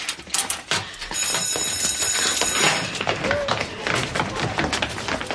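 A school bell rings loudly and steadily for several seconds on a Friday afternoon, a harsh, rattling metallic clang that fills the whole clip, with scattered tapping noises mixed in underneath.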